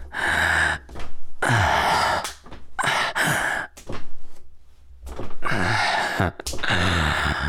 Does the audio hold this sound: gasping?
yes